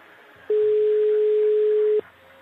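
A single steady telephone ringback tone sounds for about a second and a half, loud and clear, then stops, leaving only faint background hiss on either side.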